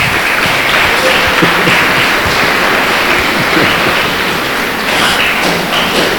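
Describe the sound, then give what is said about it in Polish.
An audience applauds priests, loudly and steadily, dense overlapping clapping that holds at a constant level for several seconds with no one talking over it. “Brawa dla nich.”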